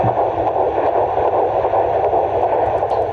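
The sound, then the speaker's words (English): A heartbeat recording with a heart rate in the 150s: a steady, loud whooshing hiss like static, with a faint, rapid, rhythmic pulsing in the low end running throughout, and no voices. “Heartbeat is in the 150s, which is normal.”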